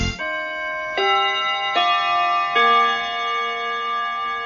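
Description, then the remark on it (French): A clock chime on Radio Bonheur marking 11 o'clock rings out four bright, bell-like notes in quick succession, each tone sustaining and blending into the next as a short melodic phrase, with no voices present. “Au carillon et sur les montres qui marchent, il est 11h, enfin un petit peu plus, 11h03.”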